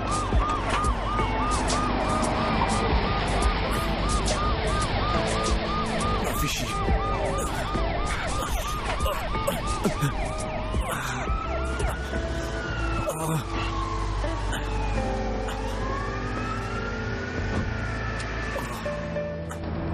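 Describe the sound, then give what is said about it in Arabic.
An ambulance siren wails in a fast, repeating rise-and-fall pattern, then shifts to slower sweeping tones, loud and steady over busy street traffic and scattered voices. “لا الاسعاف، الاسعاف، الاسعاف وين؟”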